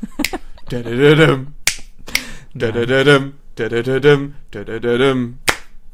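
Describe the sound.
Sharp hand claps strike a few times at a loose, uneven rhythm, clapping along to a song between phrases of a melodic singing voice, the crisp bursts standing out clearly against the vocals.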